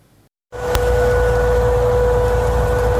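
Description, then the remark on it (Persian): A steady, droning air raid warning siren in western Tehran at midnight on Friday, said by residents to last about 15 minutes, holds one pitch, loud and continuous, over a heavy wash of rumbling background noise. It starts abruptly after a brief moment of near silence. “شنیده شدن صدای آژیر خطر در غرب تهران در نیمه شب جمعه، صدایی که به گفته ساکنان این منطقه نزدیک به 15 دقیقه طول کشید و باعث سردرگمی و نگرانی مردم در غرب پایتخت شد.”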